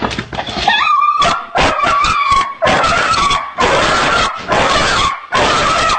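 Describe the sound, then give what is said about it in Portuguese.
A dog lets out a high, wavering whine, followed by a rapid series of harsh, strained yelps and gasps in short repeated bursts, with no one speaking. “Olha como é que ele fica depois. Só os ataques que dá nele.”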